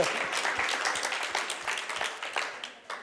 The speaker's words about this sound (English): Oh, were you clapping? Okay.